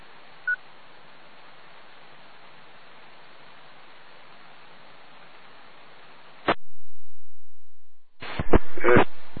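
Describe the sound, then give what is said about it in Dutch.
Steady line hiss runs for several seconds, then a sharp click and silence, followed by a few loud, short bursts of telephone line tones near the end, with no one speaking. “Dat is weer telefoon die niks was.”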